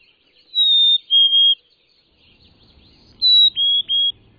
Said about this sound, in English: you'll find that the birds' contact calls sound different, too. Black-capped chickadees actually seem to say chickadee, while Carolinas blurt their name much faster and at a higher pitch.